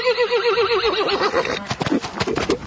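A horse, one of the 31 horses on the Barrett Ranch, lets out a loud whinny with a wavering, quavering pitch for over a second, followed by a few sharp snorts and hoof clops.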